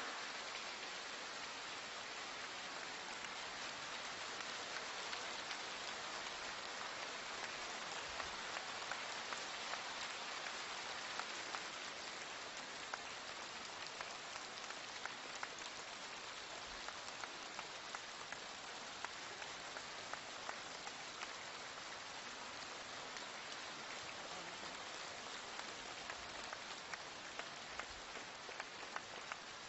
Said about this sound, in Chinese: 现在尊敬的卢军宏台长将为我们慈悲开示，让我们用最热烈的掌声恭请我们尊敬的卢军宏台长。